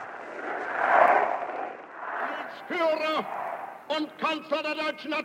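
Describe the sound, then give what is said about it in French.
A large crowd in the streets of Vienna roars and cheers at Hitler's entry into the city in 1938, in a dense, sustained wash of noise, then breaks into loud, rhythmic shouted chants from many voices in short repeated bursts. “Après cette cérémonie religieuse, fervente et émouvante, quel contraste ces manifestations de la rue nous apportent avec les hurlements du peuple acclamant son fureur.”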